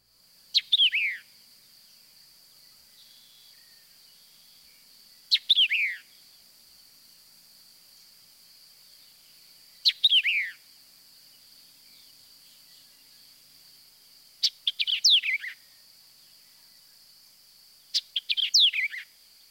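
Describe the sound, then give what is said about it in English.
A white-eyed vireo sings five short, emphatic phrases spaced a few seconds apart, each a quick burst of sharp, high downslurred notes, over a steady high insect-like hum with no voices. “Sometimes the white-eyed vireo gives a shortened version, but listen for the initial chick phrase, which is a common element in the song.”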